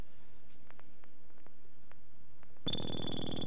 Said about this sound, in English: Yeah, see, there's a problem. I don't know how to work this phone to get it to go on. So we have a ringing phone, and so I'm just going to turn the ringer off because I don't know how to use it.